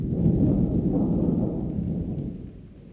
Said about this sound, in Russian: Никак гроза. Да и дождик.